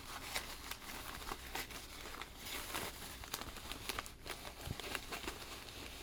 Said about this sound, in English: Don't you make a mess with all that tissue paper.